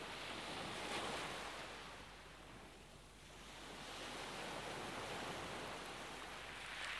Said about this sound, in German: Du erfreust dich an den Wellen und ihrem Spiel, beobachtest, wie sie immer wieder das Ufer berühren und um deine Zehen herumspielen.